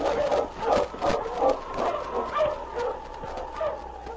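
A pack of husky sled dogs, led by the dog King, barks and yips excitedly in quick, overlapping bursts, fairly loud, as the team starts out at a fast pace, with no one speaking.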